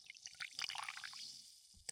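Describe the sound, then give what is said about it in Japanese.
Carbonated cider from a plastic bottle fizzing, a dense, steady crackle of tiny popping bubbles that thins briefly before a few sharper pops near the end. Quiet and intimate, with no voices. “このサイダーもパチパチって音するよね。”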